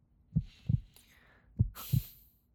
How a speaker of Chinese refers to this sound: 没关系，我和你在一起，心脏。砰砰砰，他在跳个不停，感觉到了吗？